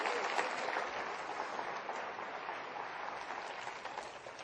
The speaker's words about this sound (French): Et ceux qui le croient disent amen et applaudissez avec moi.